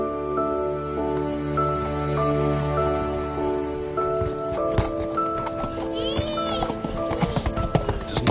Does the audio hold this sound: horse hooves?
yes